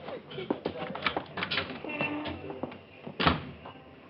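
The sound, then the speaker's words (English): A door is opened and shut amid a busy scatter of clicks, knocks and shuffling, ending with a firmer thud near the end as it closes. “Out the door.”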